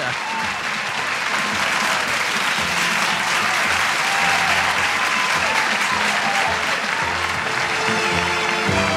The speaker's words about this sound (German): Zoals ik zei, iedereen, hartelijk bedankt voor het luisteren. Dat is wel een applaus waard, hè? En dat komt hier.